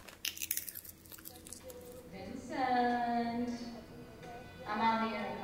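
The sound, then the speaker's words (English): A quick run of crisp cracks and crunches of sunflower seeds being split between teeth fades after a couple of seconds as voices take over. “By the 1950s, it had become known as the Sala de las Pipas because of the sunflower seed crunching working classes it attracted for cheap matinee sessions.”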